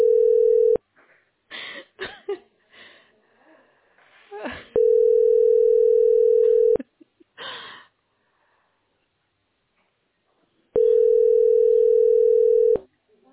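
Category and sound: signal or alarm, telephone line tones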